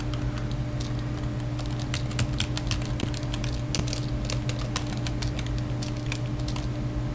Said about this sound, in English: You can hear me typing. I've just asked Jez to choose a door.